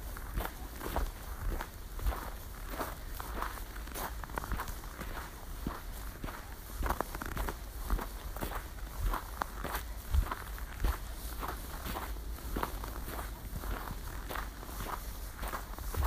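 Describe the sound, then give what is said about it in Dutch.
Steady footsteps walk at an even, unhurried pace, each step a distinct soft thud over a constant low background rumble, continuing throughout with no voices. “Kijk eens of het je lukt om iets langzamer te lopen.”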